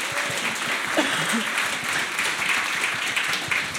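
A crowd applauds steadily, a dense wash of many hands clapping at an even loudness for several seconds, with a faint voice or two briefly audible underneath.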